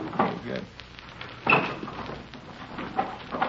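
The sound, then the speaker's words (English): A wooden dresser drawer full of dirty T-shirts scrapes open with a few knocks and rattles as a tenant's room is searched, followed by more rummaging clunks, while muffled voices murmur in the background. “You want to check the dresser, I'll get the trunk.”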